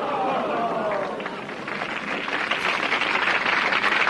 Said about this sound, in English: Oh, she's in the show too. We forgot. That's pity applause, if you want my opinion.